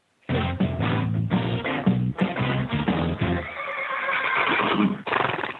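A horse whinnies loudly, a long shaky neigh that breaks into quick trembling pulses before trailing off into a breathy, fading call. No voices are heard.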